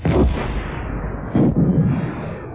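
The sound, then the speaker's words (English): Two starfighters hit by quad-link laser cannon bursts explode: two heavy, rumbling explosions go off close together, the first at the start and a second about a second later, each followed by a dull roaring tail with no voices. “Both exploded.”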